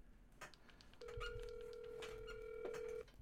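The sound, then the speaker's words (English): A phone call ringing quietly over a speakerphone: one steady, two-second ringback tone, faint and tinny, over low background clatter. “Dude, is that all the louder your phone gets?”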